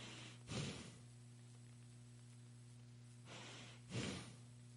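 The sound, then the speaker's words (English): A person imitates the slow, heavy breathing of a great ape seen in a video: a breathy inhale-exhale, a long pause of about three seconds, then another drawn-out breath cycle, soft over a steady low hum. “I looked at a video of a great ape, and I looked at the way the ape breathed. And the ape breathed like this.”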